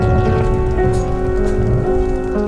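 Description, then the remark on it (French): Steady rain pattering on muddy ground, a dense, continuous hiss of drops with a low rumble beneath and a faint tonal hum running throughout, no voices. “Pluie, boue, humidité, mais ce n'est pas grave, on va tenir.”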